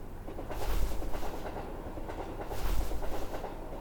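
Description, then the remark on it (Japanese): A crowded train rumbles and rattles steadily along the tracks, with a low, continuous roar and periodic clattering swells of wheels over rail joints, heard from inside the carriage. “電車が揺れちゃって。”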